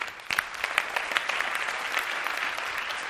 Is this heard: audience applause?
yes